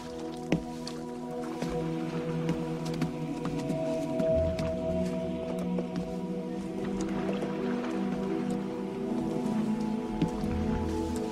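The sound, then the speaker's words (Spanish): Steady rain patters on a hard surface with scattered sharper drips, continuous and moderately loud, over a low sustained hum. No one speaks. “¿Sabéis qué hay mar adentro? Viento, lluvia y unas olas como castillos.”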